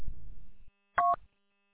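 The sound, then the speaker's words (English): A low, rumbling static hiss fades out, then a single short, loud electronic double beep made of two blended tones sounds on its own before silence, a radio repeater double beep heard about every 10 seconds while a station is transmitting. “You had about every 10 seconds, you had a double beep, and then it sounded like you just timed out or the repeater dropped.”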